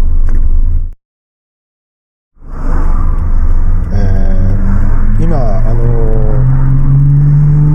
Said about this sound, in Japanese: うるさいな、車を乗っけた車ってあるじゃないですか、トラックの荷台みたいなところに新車を乗っけたりとかね、事故車を乗っけたりして運ぶ車